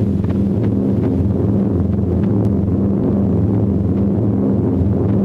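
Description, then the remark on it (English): A squadron of Fortress bombers flies high overhead: a steady, heavy drone of piston engines, a deep layered rumble with pulsing engine tones that holds loud and constant throughout, with no voices. “High above them, a squadron of bombers flies by. Fortresses.”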